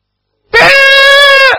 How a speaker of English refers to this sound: Ever heard a pig squeal? They're noisy. There was one a mighty squeal that made you got out of that trough.